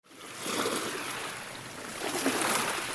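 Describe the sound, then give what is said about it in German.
Waves on a lake of deep turquoise water, not an ocean, wash and break against the shore under a heavily overcast sky in a steady, broad hiss of water, swelling slightly louder toward the end, with no voices. “Und dieses Gewässer ist nicht etwa ein Ozean, auch wenn die Wellen, die sich am Ufer brechen, vielleicht danach klingen mögen”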